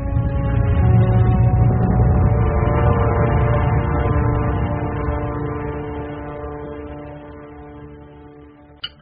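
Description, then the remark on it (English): A deep, steady boat engine drones loudly with a rich humming tone as the boat leaves and heads out to sea, then slowly fades as it moves away, ending with a brief click. “They're leaving. The boat's going to sea.”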